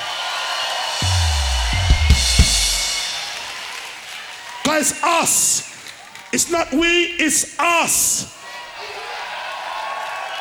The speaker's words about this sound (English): love you, Glastonbury. Glastonbury, please give yourself a round of applause.